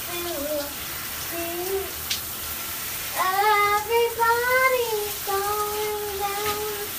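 A child's high voice sings a wandering, made-up melody in short phrases, rising louder partway through, over the constant steady hiss of a running shower.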